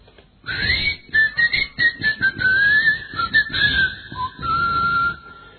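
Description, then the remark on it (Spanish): A person whistles to call a keychain that responds to whistling, a wavering, sliding tune for several seconds, fairly loud, the pitch rising and dipping in short phrases with breathy gaps between them. “Porque he visto unos, yo quería regalarle uno, ¿no? Que usted les chifla.”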